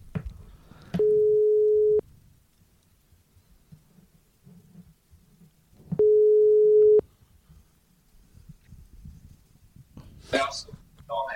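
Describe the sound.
Two steady, one-second ringback tones of a phone call, spaced about five seconds apart, sound clearly over a low murmur of background voices and noise.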